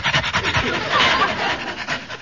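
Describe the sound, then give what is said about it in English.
A man on all fours imitates a dog panting, giving quick, breathy huffs in a steady rhythm, fairly loud, with no words spoken. “Well, he's panting, so I'll pant.”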